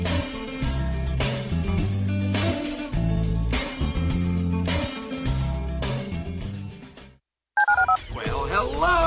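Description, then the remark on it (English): A loud, rhythmic run of telephone keypad dialing tones, in quick bursts over a full musical backing, broken by a brief silence near the end before a short busy flourish. A phone is dialed to call into a radio program's listener line. “dial 713-780-ESPN. Dial the phone.”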